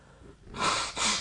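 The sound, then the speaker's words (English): A sneeze comes through as two loud, airy bursts of breath in quick succession, the second following right after the first, with no talking around them. “How we sneeze? Why we sneeze?”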